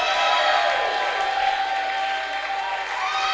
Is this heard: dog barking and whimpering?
no